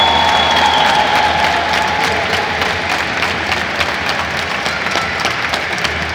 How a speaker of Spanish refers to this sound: ¡Un aplauso para los campeones!